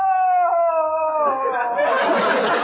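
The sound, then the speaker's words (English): A woman lets out a long, loud wailing cry that sounds like a coyote's howl, holding a wavering pitch before breaking into a ragged, breathy wail. “No! There she is. Really? I thought it was a coyote.”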